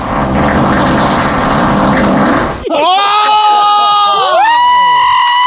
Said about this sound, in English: And then one final one, just entitled, Huge Fart.